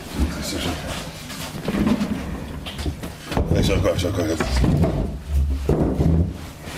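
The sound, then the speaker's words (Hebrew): A chair is dragged and shifted, with low scraping rumbles and a sharp knock partway through, while a man speaks over the shuffling, as an overly grand chair is swapped for a regular one. “אפשר כיסא רגיל, הכיסא הזה יותר מדי אדמו"רי.”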